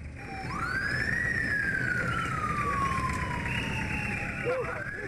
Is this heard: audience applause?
no